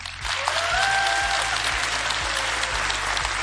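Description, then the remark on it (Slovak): Dense, steady applause from an audience at a national gospel talent final in the Jonáš Záborský Theatre in Prešov, broadcast live by Rádio Lumen, a continuous wash of many hands clapping at even loudness, with a brief whistle-like tone rising above it early on. “A tak pozdravujeme týmto potleskom aj poslucháčov z divadla Jonáša Záborského v Prešove.”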